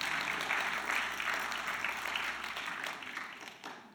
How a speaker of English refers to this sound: You can clap if you like that. I love it.